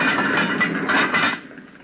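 A log is shoved into a furnace with a rough, steady clatter of wood scraping on metal for about a second, then the iron door bangs shut and the noise fades quickly.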